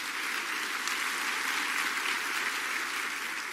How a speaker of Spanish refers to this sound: Vamos a dar un aplauso más. Yo creo que vale. Vale, vale.